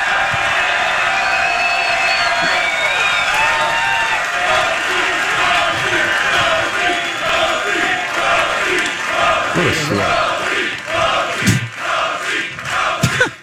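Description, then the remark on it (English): A large crowd cheers loudly and continuously for former Channel 4 anchor Mark Rosen as he comes out to them: a dense roar of overlapping shouts, whoops and high-pitched yells that holds steady throughout, with a few sharper bursts toward the end. “Make the loudest noise possible for former Channel 4 anchor Mark Rosen, everybody!”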